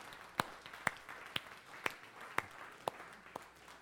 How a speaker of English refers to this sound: Yeah, we can clap. That's good.